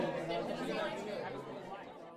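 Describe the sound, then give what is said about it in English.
Dense, overlapping chatter from many voices fills the whole stretch, a steady murmur of a crowded pub with no single voice standing out, holding an even, fairly loud level throughout. “I make my way to a secluded table at the back of the pub full of people.”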